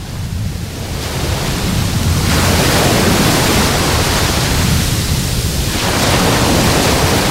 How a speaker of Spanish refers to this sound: lo primero es poner en primer plano el sonido que está de fondo y estará durante esta hora de radio permanentemente sonando. El sonido de las olas del mar. Así es como hoy escuchamos la playa de Salobreña, con viento de poniente.